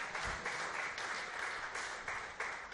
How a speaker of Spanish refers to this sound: Mi nuevo equipo será el Sagan Tosu japonés. Un aplauso, yo creo, para decir a Fernando, aquí donde... Enhorabuena.